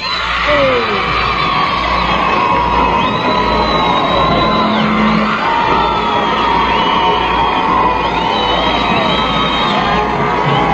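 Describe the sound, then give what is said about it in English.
A small crowd at the Hi-Fi Club broadcast from Holy Rosary Academy on a Friday evening in January 1964 cheers and shouts nonstop, a loud dense roar of voices with high whistles and whoops rising above it now and then. “We have a very small crowd on hand.”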